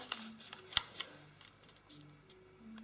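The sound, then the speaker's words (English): Quiet paper handling: soft rustles and crinkles broken by a few sharp crisp snaps as the top layer of a folded paper model is folded and pressed into a crease. No one speaks. “Now we're going to flip over the model, and then we're going to fold just the top layer so that we're creating a crease between this point and that point.”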